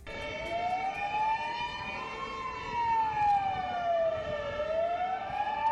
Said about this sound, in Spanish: No se asusten. Son las sirenas de los bomberos y de la policía que participaron en el simulacro del incendio en la catedral, organizado con el objetivo de mejorar la actuación de estos profesionales